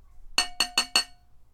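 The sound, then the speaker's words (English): Four quick, bright clinks of a glass toy in a steady rhythm, each with a short ringing tone, fairly loud against a quiet background with no talking. “Okay, I'm going to start with my glass toy.”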